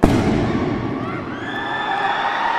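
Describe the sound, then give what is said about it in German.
A single sharp gunshot bursts out at the start in a train station hall as police confront masked gunmen, followed by a long ringing, reverberant tail with a murmur of crowd noise beneath it. “Der erste Böse geht nach einem Schuss zu Boden, ein weiterer wird gefesselt.”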